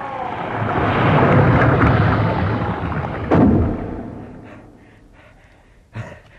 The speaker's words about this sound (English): The vile thing has closed the doors on us.